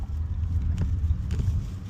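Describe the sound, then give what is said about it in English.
A low, steady engine rumble of a car moving slowly through traffic on a busy street, with faint passing swooshes from other cars going by in both directions and a slightly windy, muffled background. “The car continues to move slowly, navigating through traffic on the busy street.”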